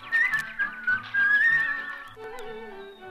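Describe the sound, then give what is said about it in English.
A person whistles a short, bright melody, the notes sliding and wavering before dropping to a lower, steadier tone near the end. No talking alongside it. “Just whistle while you work.”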